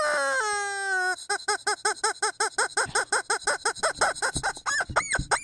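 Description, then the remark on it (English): A squeaky rubber chicken dog toy, given to the dog Bella, lets out a loud wheezing squeal, then squeaks rapidly in a quick rhythmic series of about a dozen and a half honks, alone with no talking. “Check that chicken.”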